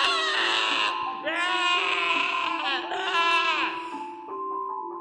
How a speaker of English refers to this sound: And actually the baby starts screaming.